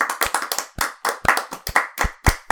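people clapping hands

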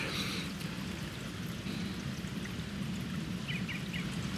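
running water

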